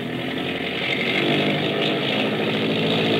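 A boat engine roars loud and steady as it opens up at sea at night in deep water, a dense buzzing drone with a strong throbbing rumble that swells slightly as it holds high revs.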